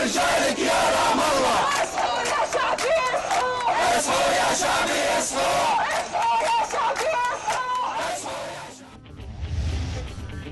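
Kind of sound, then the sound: crowd, protesters chanting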